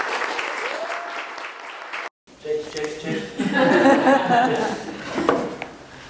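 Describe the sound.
A crowd claps steadily for about two seconds for a spontaneously told story, before the sound cuts out abruptly. After a brief silence, voices and light chuckling follow amid lingering murmur.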